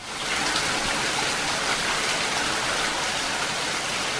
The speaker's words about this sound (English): Now, even though it's pouring outside, your dog will give you those eyes that plead, "Please, let's just do something together."